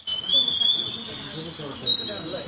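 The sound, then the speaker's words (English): Birds chirp steadily with thin, high whistling calls that overlap across the whole stretch, set over a low murmur of background sound, moderately loud. “I'm not talking about the birds chirping.”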